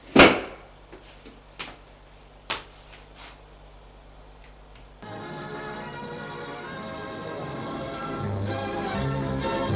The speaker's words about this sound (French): Elle s'ennuyait tellement qu'elle ouvrit un tiroir. Mais la honte lui fit refermer de suite.